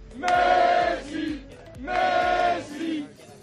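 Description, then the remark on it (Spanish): A crowd of about forty people at a rally called by the Tsunami Blaugrana platform outside the Camp Nou chants the name "Messi" in unison, twice, with loud, rhythmic, strongly voiced shouts and a short dip between the repeated chants. “Los gritos de la gente dejan bastante claro su mensaje.”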